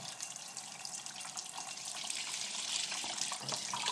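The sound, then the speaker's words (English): Lukewarm water runs steadily from a tap for doing the washing, with a broad, hissing splash, holding an even loudness throughout the four seconds with no talking over it. “Warm with water, that is not warm. It's lukewarm, but not warm.”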